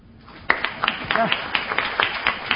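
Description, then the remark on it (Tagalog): A group, those who are saved, breaks into scattered, irregular hand claps at a preacher's call, beginning abruptly and continuing steadily, with sharp individual slaps standing out over a low murmur of voices. “Lahat po ng ligtas pumalakpak.”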